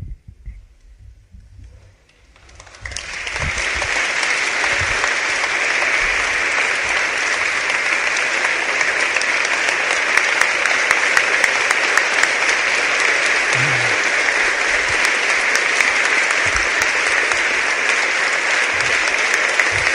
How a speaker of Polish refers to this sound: Uważajcie, bo po takich oklaskach mam ochotę zacząć od nowa.